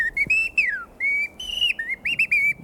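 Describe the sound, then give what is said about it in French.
A songbird's clear, flute-like territorial song of sustained whistled phrases with gliding pitch, repeated in close succession and heard alone, loud, with no talking. “Il y a le chant qu'on entend là, territorial, la mélopée.”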